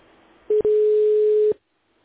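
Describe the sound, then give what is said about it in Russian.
A steady electronic telephone tone sounds after a brief blip, holding for about a second before cutting off into near silence, a ringback heard while a callback connects to a client. “Обратный звонок. Соединяем с клиентом.”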